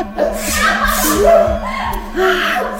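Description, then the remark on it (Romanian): A voice imitates a fox's fit of sneezing after flour is thrown into its snout: several breathy, sputtering bursts in quick succession, fairly loud, over a steady low hum. “Și acesta orbit începu să strănute.”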